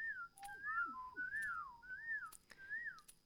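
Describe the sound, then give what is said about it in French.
A person whistles a soft, wavering melody through pursed lips, a series of gliding notes rising and falling in quick succession, fairly quiet with faint breathy clicks between phrases. “Juste, mets tes lèvres ensemble.”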